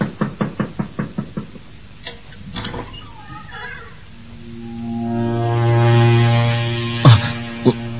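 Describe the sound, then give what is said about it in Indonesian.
A quick run of about seven knocks on a wooden bedroom door, sharp, fading slightly, followed by a low sustained droning tone and a couple of brief clicks. “Tunggu sebentar. Aku akan bukakan.”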